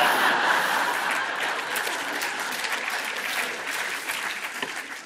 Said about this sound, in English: Right. That's one spontaneous eruption of applause to you, none to me.